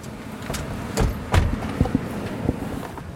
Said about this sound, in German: Die Jeeps bremsen scharf.